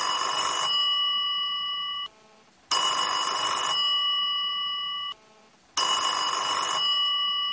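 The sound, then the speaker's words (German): A telephone bell rings three times in a steady rhythm, unanswered, each bright metallic burst fading before a short silence, fairly loud with no voices. “Es läutet ein paar Mal, aber niemand hebt ab.”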